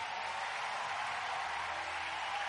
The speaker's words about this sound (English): Let's give Jesus a big hand clap.